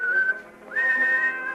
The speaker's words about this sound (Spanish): Llegan a la azotea. Marcello silba.